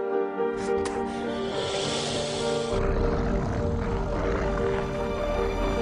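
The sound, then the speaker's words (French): A loud, steady mechanical drone with a thick harmonic hum from a helicopter rotor in a video game turns rougher and noisier partway through, as if rumbling or crashing, as the helicopter is shot down with a car, with no talking over it. “Vous venez de flinguer un hélicoptère avec une voiture.”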